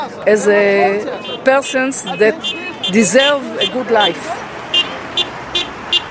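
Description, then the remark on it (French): Several car horns from passing motorists honk in an uneven series in solidarity with a small protest rally, over steady roadway traffic noise, with a murmur of voices from the crowd in the background. “Les manifestants sont peu nombreux, mais des automobilistes klaxonnent en signe de solidarité en passant à côté du rassemblement.”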